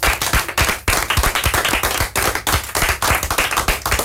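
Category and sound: crowd, audience applauding loudly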